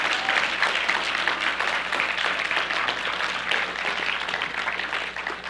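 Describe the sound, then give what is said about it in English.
Sustained audience applause at a church service, another round for performers, a dense, steady wash of many hands clapping at even loudness for several seconds with no voices standing out. “Let's give them another round of applause there.”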